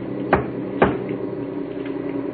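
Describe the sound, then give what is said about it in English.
Two sharp, solid knocks on the metal back of a truck cab, about half a second apart, over a steady low rumbling drone. No one speaks. “3 knocks on the back of the cab.”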